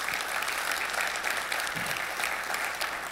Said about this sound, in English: Thank you all for your time and for your vulnerability. And yeah, you can clap.